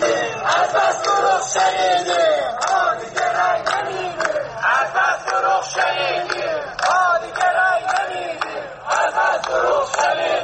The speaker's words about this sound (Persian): این شعار اعتراضی در روزهای گذشته در تجمعات بازنشستگان و مال باختگان هم شنیده شد.